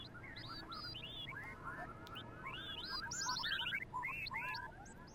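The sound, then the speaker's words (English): An owl whistle being blown: rapid, overlapping chirps and trills, rising and falling in pitch, played continuously over a steady background hiss with no talking. “Am I sensing a little owl in that whistling? Well, it's appropriate. It's an owl whistle.”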